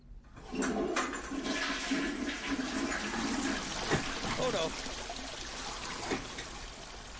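A toilet flushes and overflows, a loud, steady rush of swirling water lasting several seconds with gurgles and splashes, continuing without letting up to the end.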